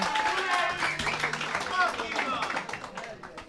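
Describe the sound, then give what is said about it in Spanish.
An audience applauding a singer: steady, dense clapping from many hands, fairly loud and unbroken for the whole stretch, with crowd voices mixed in underneath. “Un fuerte aplauso”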